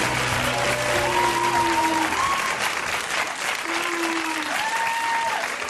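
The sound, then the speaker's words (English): The Colbert Report studio audience boos loudly as Bill O'Reilly, 'Papa Bear', is welcomed, long drawn-out 'boo' tones swelling and sliding in pitch over a steady wash of crowd noise and clapping. “You hear that booing?”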